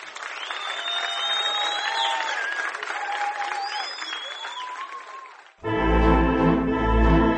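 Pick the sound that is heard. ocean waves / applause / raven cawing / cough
applause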